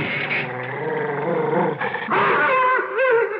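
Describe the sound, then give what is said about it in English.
A dog named Kip growls and snarls loudly in protest as he is brought inside through a door, a continuous rough, harmonic vocalization that swells and rises in pitch near the end, with no talking. “He's protesting rather vehemently, sir.”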